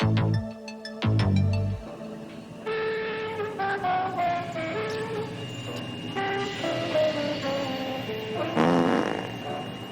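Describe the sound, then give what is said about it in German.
A voice imitates spaceship sounds: fairly loud buzzy blasts followed by warbling, sliding tones that rise and fall continuously, with no actual talking. “Chef, Ich mach Space-Geräusche.”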